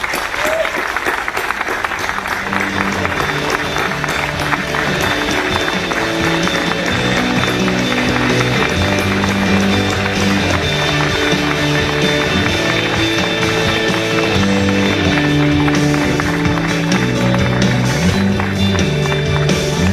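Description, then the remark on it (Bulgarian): A crowd at a campaign event in Sofia claps steadily and loudly for the whole stretch, welcoming mayoral candidate Maya Manolova onto the stage, mixed with a loud backing of music that shifts through chords, with no one speaking over it. “И затова аз като председател на инициативния комитет ви призовавам всички вас да помогнете с гласа си и с аплодисментите си, за да приветстваме днес на тази сцена следващия кмет на София.”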